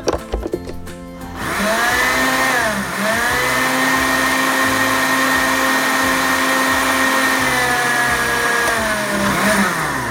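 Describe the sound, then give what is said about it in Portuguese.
A blender whirs loudly and steadily as it blends juice ingredients, its motor pitch dipping briefly as the contents churn, after a short burst of clattering at the start. No one speaks over it. “Bom, nós vamos botar tudo isso aqui no liquidificador e bater.”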